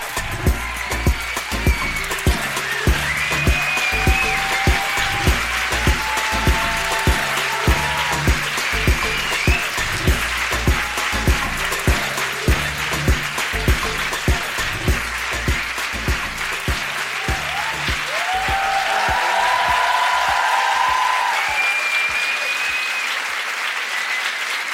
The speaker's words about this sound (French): J'ai l'impression qu'ils m'ont moins applaudi, moi, mais bon, je sais pas comment le prendre. Ils sont au bord de la standing et vous n'avez rien dit encore.